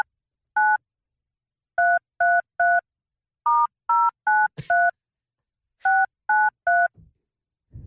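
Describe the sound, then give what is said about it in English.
A telephone number for Ballyford in County Kerry is keyed in as a series of short two-tone dialing beeps, grouped in bursts of one, three, five and three presses with brief pauses, ending with a faint click. “That is who we are calling now.”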